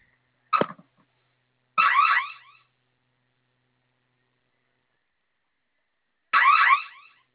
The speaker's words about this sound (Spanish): Va a oprimir el botón de la flamita durante 10 segundos. Se va a activar la alarma. En cuanto suene la alarma, ingrese la clave que acabamos de dar de alta para silenciar, por favor.